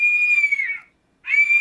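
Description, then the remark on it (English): A bird of prey screeches twice, loud and high-pitched, with a piercing harmonic tone. The first cry trails off and drops slightly, then a short silence, then a second cry rises back in. “I believe that's a bird of prey, although it sounds like an entire kindergarten being murdered, which I guess you can get away with if you happen to be in a place where birds of prey hang out.”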